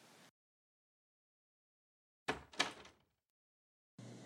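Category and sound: household object, bedroom door being opened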